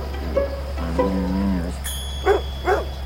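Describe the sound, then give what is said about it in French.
A six-year-old female Labrador dog gives two sharp barks near the end, following a drawn-out, tonal low call. A steady low hum runs underneath throughout. “C'est ma chienne Labrador, 6 ans, qui connaît le territoire par cœur.”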